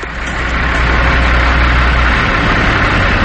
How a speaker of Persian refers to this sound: اوه صفی اینجا، این همه ماشین سنگین چرا تو صفن؟ گازوئیل که مشکلی نداره زدنش.